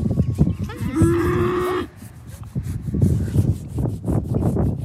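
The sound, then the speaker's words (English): A family's one dairy cow, kept among a herd of meat cows, lets out a single long, steady moo, then the sound gives way to rustling and shuffling noises. “And nestled into the herd of meat cows is the family's one dairy cow.”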